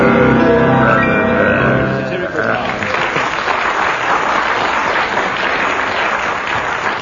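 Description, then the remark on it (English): An audience breaks into steady, loud applause that carries on for several seconds, following a couple of seconds of raised, tonal voices at the start. “Well, judging from that applause, we'll give you, what, 6 marks?”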